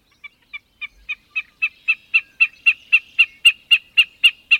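Wilson's snipe spring display sounds: a steady series of sharp, pulsing notes that quicken slightly and swell from faint to loud, repeating about three times a second with no voices.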